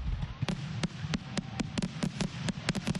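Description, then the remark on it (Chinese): A consumer firework goes off in a safety demonstration showing the dangers of illegal or improper firework use, in a rapid, irregular string of sharp cracks and pops, about a dozen in three seconds, crackling over a low, steady background rumble. “演示过程显示非法或不当使用烟花的危险性。”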